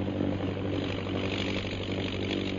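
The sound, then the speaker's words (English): A propeller airplane engine drones steadily and loudly throughout as the plane heads south toward the pass, a continuous low throbbing hum with a rough, buzzy edge and no pauses or voices. “And the plane's heading south”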